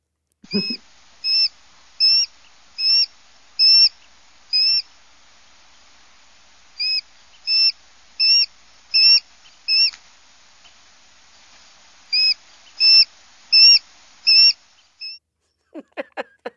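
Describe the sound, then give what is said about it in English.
A small hawk's piercing territorial scream, warning others that they are getting too close to its territory: loud, high, evenly spaced cries in three bursts of five or six calls with short pauses between, with no talking. “Well, they have a piercing call like that because they're warning other people that they're getting too close to their territory most of the time when they're screaming”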